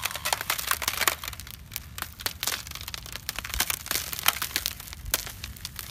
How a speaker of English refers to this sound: The sound of ice cracking will play for the coldest day.